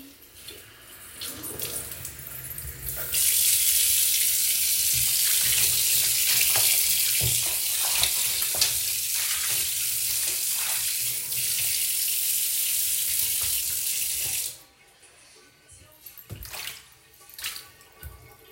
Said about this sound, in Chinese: 浴缸放个水。